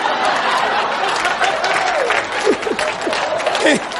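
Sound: audience applause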